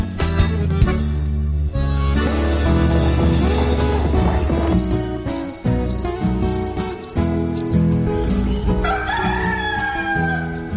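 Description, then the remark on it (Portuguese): A speckled rooster crows toward the end, its drawn-out rising call cutting through loud, dense instrumental music that fills the whole stretch. “Quando o galo carijó solta o canto do bule, pula em pé que já é hora de largar.”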